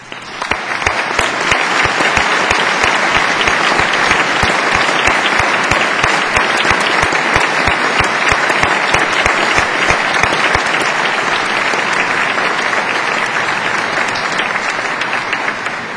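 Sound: audience applause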